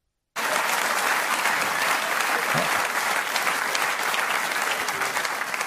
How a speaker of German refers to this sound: so einen wirklich, wirklich drittklassigen Witz daraus bastelt, die Leute dann aber klatschen und applaudieren.